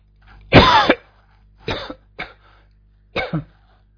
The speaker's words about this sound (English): Okay, excuse the cough there. Tried to hit the mute button, but I seem to have missed it.